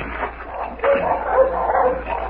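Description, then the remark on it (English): Several dogs bark in a loose, overlapping cluster by a tree in front of a house with a barn, the yelps coming in quick bursts over a steady low background hum, moderately loud and slightly muffled. “Dogs.”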